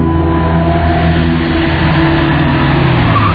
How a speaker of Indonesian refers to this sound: menghentikan kembali mobilnya. Ketika di depan, kami dihadapkan dengan jalan bercabang.